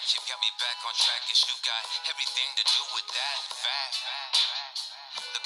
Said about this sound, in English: That reverb was nice. That's true. Nice, that was nice.